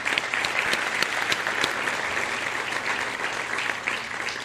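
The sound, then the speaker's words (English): A crowd gives a round of applause for the event's sponsors, clapping steadily in a dense, even wash, the many overlapping hand claps holding a fairly constant loudness throughout without any voices standing out. “Round of applause for our sponsors.”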